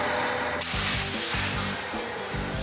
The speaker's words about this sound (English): The water jet thing is crazy. This thing can slice through 8 inches of steel like a hot knife through butter. And all the curves in the letters are coming out nice and smooth.